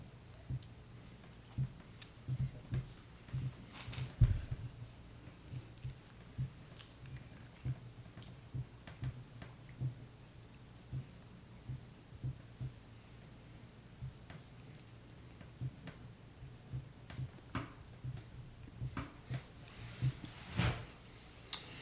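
Soft, steady ticking of a clock, a run of small regular clicks over a low background hum, with no voices present.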